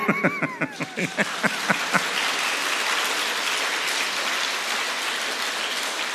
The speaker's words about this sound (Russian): Ну-ка, все вместе, уши развесьте, лучше по-хорошему хлопайте в ладоши вы.